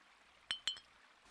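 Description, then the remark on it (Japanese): Two bright glass clinks in quick succession, crisp with a short ringing decay, as two glass ramune bottles are tapped together in a toast at night, with a faint third tap after and quiet background otherwise. “じゃあ、乾杯。”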